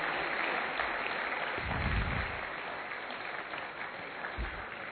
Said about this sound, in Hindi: एक बार जोरदार तालियों की गुंजायमान।